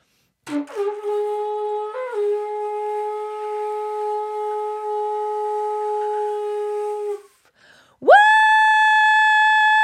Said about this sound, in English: So we'll count of three, we'll blow our shofars, we'll yell and believe those walls are coming down.